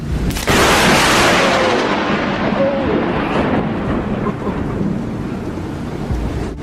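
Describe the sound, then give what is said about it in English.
A sudden sharp lightning crack bursts in loud, then rolls into a long, heavy thunder rumble that stays strong and fades only slightly by the end. No one speaks. “Electric cosmologists believe that interplanetary lightning bolts have hit the Earth many times in the past, with dire consequences for everyone on the planet.”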